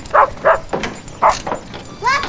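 A dog, Lucky, barks several times in short, sharp bursts with uneven gaps between them, then lets out a higher, drawn-out yelp at the end, after jumping out of the open back of a Jeep and running off.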